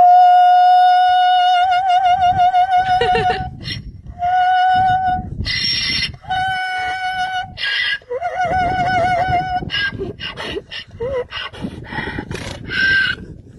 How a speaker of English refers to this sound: And wrapping up Joe's Need to Know News today, have you heard of Harriet, a.k.a. the Opera Donkey? No. All right, please sit back, relax, and be entertained.